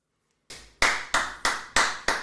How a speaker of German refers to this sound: Das Klatschen kommt von der vierten Person im Raum.